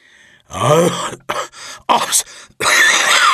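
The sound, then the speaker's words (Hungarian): A person performs a choking cough after swallowing a handful of hot ash: a run of strained, raspy bursts and gagging groans in quick succession, loud, with no other sounds around it. “Kinyitotta a száját, és azon nyomban lenyelt egy marék forró hamut.”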